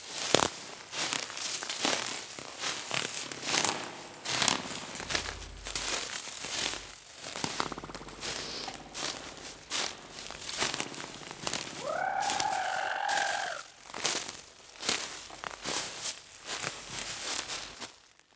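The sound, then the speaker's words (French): Continuous rustling and crackling as someone pushes through leafy branches, with uneven bursts of crunching foliage and a brief bird-like call partway through. “Alors là on rentre dans le carrément des branchages feuilles.”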